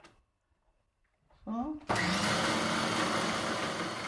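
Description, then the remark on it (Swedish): An electric mixer starts abruptly and whirs loudly and steadily, a dense buzzing roar, mixing a batch after about half a deciliter of oil has been poured in and before the water is added. It runs to the end after a quiet moment and a brief voice. “Jag kan mixa det här en liten stund innan vi ska ha i vattnet.”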